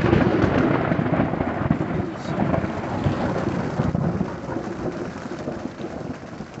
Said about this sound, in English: Where it was sunny just 30 minutes before, rain now battered the thin tent fabric. The wind pulled at the rainfly, and I could have sworn each clap of thunder was right above our campsite.